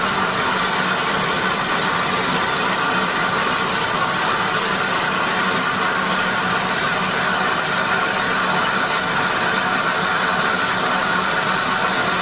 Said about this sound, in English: Steam up for both locomotives.